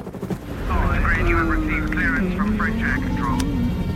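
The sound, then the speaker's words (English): A loud, steady helicopter engine drone fills the cabin, a continuous low rumble throughout, as the helicopter flies high above farmland, while a man sings or hums a wavering tune to himself over the noise. “High above farmland, … claws his way up through a hatch in the floor of the helicopter, a tight squeeze with his rucksack on.”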